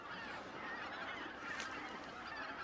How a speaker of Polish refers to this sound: te wszystkie gąski siadły na jeziorze ptasira i zaraz wejdziemy na wieżę, będziemy je oglądać i nagrywać, bo jazgot jest niesamowity. Ile jest gęsi w ptasim raju dzisiaj? Wszystkie! Ale się pogoda zrobiła. Dobra, najpierw je nagramy. Około 2000 gęsi